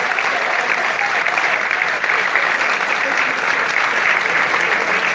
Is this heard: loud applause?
yes